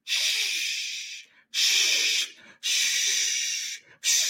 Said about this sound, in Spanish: Aviento más agua a las piedras ardientes.